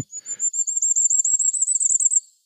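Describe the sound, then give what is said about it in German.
A very high, thin song of a very small bird, played from a phone: a fast, rapidly warbling trill held steadily for about two seconds, clear, with nothing else around it. “Und es ist ein sehr kleiner, niedlicher Vogel. Sehr hochfrequent, wirklich in den Ohren.”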